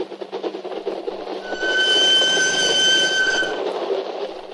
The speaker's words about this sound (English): As my train crossed the border and thundered across the flat Holland marshes toward my refuge in Denmark